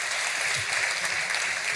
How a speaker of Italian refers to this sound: Fate un applauso ai nostri capisaldi, potete andare.